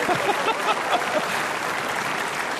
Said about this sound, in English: I'm just, thank you. Would you give this guy a round of applause?